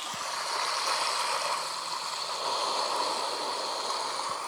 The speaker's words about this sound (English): You may have heard we've got our ocean ambiance in the background, like doing our devotion on a tropical island.